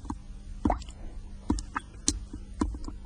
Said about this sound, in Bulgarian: Само капенето на чешмата е в тъмната кухня.